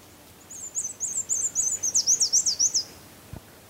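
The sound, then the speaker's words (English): A black-and-white warbler sings a rapid two-part run of about a dozen high, thin, squeaky notes lasting a couple of seconds against a quiet background on a still morning hike, followed by a soft thump. “Now that's a real tricky song. The black and white warbler normally goes just weetsa weetsa weetsa weetsa like a single parted song.”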